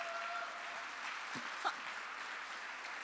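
A crowd claps steadily, giving applause to the Lord, the dense patter of many hands even from start to finish, with a brief shout or cry rising above it midway.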